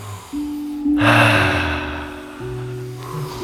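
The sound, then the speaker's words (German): A forceful, drawn-out breath rushes in during an energetic breathing exercise and lasts over a second, then fades, with steady low musical tones humming underneath throughout. “Und von da aus atmen wir weiter. Mit Freude.”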